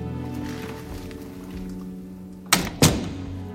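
door being closed shut

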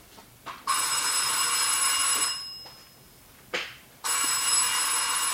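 telephone bell ringing

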